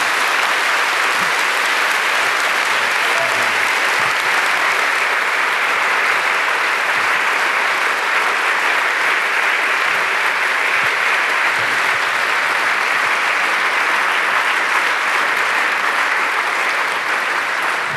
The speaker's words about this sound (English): Well, then give a warm applause to all the people working here, all the angels helping out.